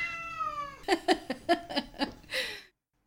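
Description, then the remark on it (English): Donny the cat meows: one long, drawn-out wavering meow, then a quick run of five or six short chirping meows and a final brief cry, with no talking. “I should say at this point we have been joined by Donny the cat.”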